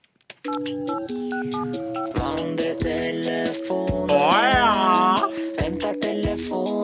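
A quick run of electronic dialing beeps gives way to a loud, bright ringing melody over punchy beats, like a phone-call jingle, with no one speaking.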